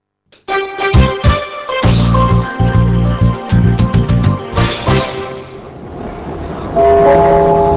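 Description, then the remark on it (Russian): An electric Prague metro train runs by with a loud steady rumble, rhythmic clacking and high whining tones that rise and shift as it moves, with no one talking. “У пражского метро сегодня праздник. Его можно поздравить с обновкой.”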